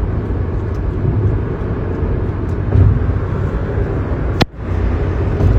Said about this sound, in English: But I do know that this truck in front of me is kicking up many rocks.